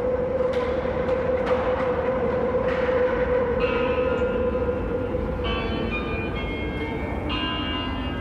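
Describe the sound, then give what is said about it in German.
A steady, loud rumble of a train fills a busy station crowded with people on a Friday evening, with a sustained metallic tone, brief clanks and high squealing or ringing notes layered over the ongoing noise. “Der Bahnhof ist voller Menschen, die mich erstaunt anstarren.”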